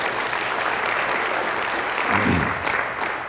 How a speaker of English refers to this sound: And so I want to acknowledge the organizers from the Parkland Institute for bringing all of you together today in a good way. And I also give them a round of applause.